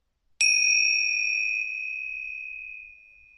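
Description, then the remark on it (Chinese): A single bell chime struck once to mark the end of a 10-minute breathing meditation practice, its bright, clear tone ringing out and lingering as it slowly fades, heard on its own with no voices. “在时间到的时候，我会用铃声提醒你们。”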